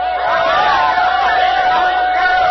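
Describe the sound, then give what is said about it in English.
A loud, dense crowd roars and cheers continuously as the Tom Thumb locomotive approaches, voices blending into a steady wash of noise, with the locomotive's sustained high whistle running underneath throughout. “Perhaps you heard it over the noise of the crowd.”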